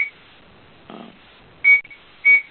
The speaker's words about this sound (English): Somebody's got their phone unmuted and they're making kind of a clinking, maybe glassware kind of sound. Pretty intriguing.